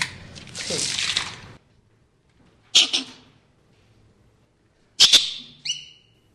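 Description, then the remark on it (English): A burst of rough noise, then two sharp, loud barking alarm calls from male squirrels in a research lab room, a couple of seconds apart, each a sudden bark trailing into a brief tonal cry, with quiet between them. “I'm going to open the door, and they're probably going to start barking at us, but these are all males.”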